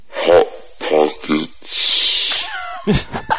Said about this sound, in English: I happen to have a recording of that bird, if you want me to play it.